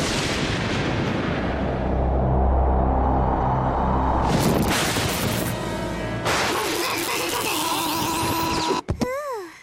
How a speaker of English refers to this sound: Don't worry, kids. That's not dangerous lightning. It's just strong enough to cause superpowers.